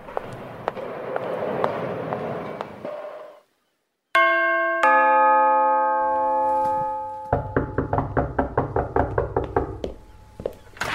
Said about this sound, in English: Goodness me, you're going to batter the door down.